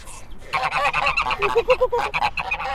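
Pet birds calling in a loud, rapid burst of harsh, nasal honks that overlap and repeat steadily for a couple of seconds after a brief quiet start, with no one talking.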